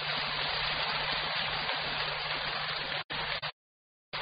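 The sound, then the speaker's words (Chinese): Loud, dense applause from an audience of Buddhist followers clapping louder at their teacher's request, a steady wash of many hands clapping together for about three seconds, then a brief burst and an abrupt stop into silence. “如果还想改的人，就跟我鼓掌鼓得响一点。”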